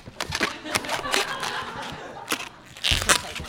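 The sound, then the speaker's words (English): An old latex balloon being twisted into a Snoopy balloon animal, giving off irregular rubbery squeaks and crinkly crunching bursts, with a louder squeal near the end. “It's funny, like, I don't buy these balloons very often. I can feel that this one's kind of old, so it actually might pop.”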